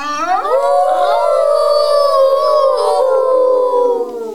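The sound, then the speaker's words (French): A single long howl from Joker, the most terrifying wolf of the forest, rising quickly to a high held note and then slowly sliding downward, loud with no other sounds around it. “Ils étaient face à face avec le plus terrifiant des loups de la forêt.”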